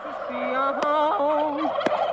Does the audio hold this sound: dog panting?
no